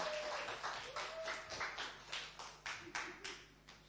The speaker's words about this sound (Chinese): 那大家从心里面去欢迎他在线上的弟兄姐妹，在现场的弟兄姐妹呢，就以掌声鼓励他。